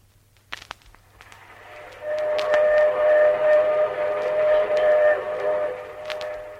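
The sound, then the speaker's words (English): A Union Pacific passenger train with an observation car rumbles along while its steam whistle blows a long, steady, loud tone over the clatter for several seconds, after a few sharp clicks at the start. “And even though we were on the train, Jack was determined to give us a real old...”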